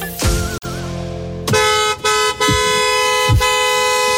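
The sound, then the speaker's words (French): A car horn honks in several loud, sustained blasts with brief gaps between them, clear, with a low engine rumble underneath and no talking, from Thierry at the wheel of his car. “Ça c'est Thierry au volant de sa voiture.”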